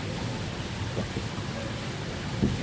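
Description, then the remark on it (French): Steady, dense rain hisses throughout with a low, rumbling undertone of a thunderstorm, holding a constant moderate level with a couple of faint soft thuds; no one speaks. “Alors là, on entend l'orage, c'est ça.”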